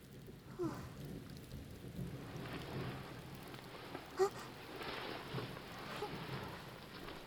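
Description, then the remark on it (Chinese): Steady rainfall hisses throughout, with a low, rolling thunder rumble underneath and one brief, sharp spatter of drops midway. Fairly soft, with no voices. “啊，又下雨了，又下雨了。”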